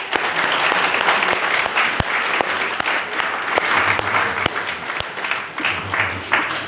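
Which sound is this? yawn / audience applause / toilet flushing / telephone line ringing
audience applause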